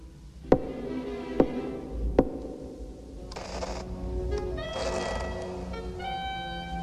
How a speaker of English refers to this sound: Outside a heavy wooden door, Creeper hesitates, trembling, then knocks.